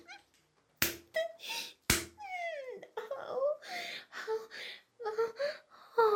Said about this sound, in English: Oh, you're slapping me so hard.